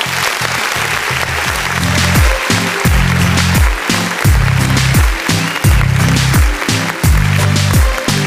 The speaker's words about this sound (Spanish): Y déjenme darles la cordial bienvenida a este nuevo episodio número 41. Ya vamos creciendo en podcast y eso me alegra muchísimo. Y yo sé que ustedes también. Y eso claro que sí, que se merece un fuertísimo aplauso.